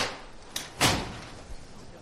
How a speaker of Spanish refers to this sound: que da instrucciones a sus hombres, suena el martillo y el paso se va a levantar.